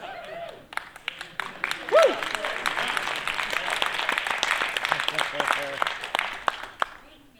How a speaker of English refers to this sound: Thank you. We applaud you, brave souls, for being here.